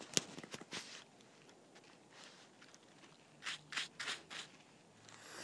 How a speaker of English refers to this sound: Dog stops, circles. First time dog's been out on long lead in long time. Dog digs in snow.